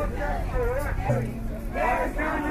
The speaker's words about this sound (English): It's after the trial of Goldman Sachs at Occupy Wall Street site at Liberty Square. And there's a large crowd blocking the front door to Goldman Sachs, trying to find out what's going on.